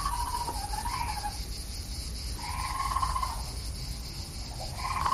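A nighttime chorus of steady chirping insects on town streets, with a frog and a raccoon giving three wavering, warbling calls at regular intervals, fairly loud.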